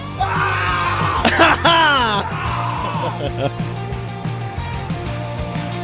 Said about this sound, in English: That's exactly what my alarm sounded like this morning, by the way. I don't know what we're yelling about!